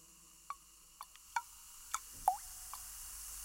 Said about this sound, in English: Hold out your glass. You need a few more drops.